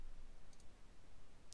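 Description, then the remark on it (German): A couple of soft, crisp clicks from a computer mouse button as the Connect button is clicked in the Tor Browser, a quick double tap followed by a single click a moment later, against a faint steady background hiss. “Dann auf den Button Verbinden klicken.”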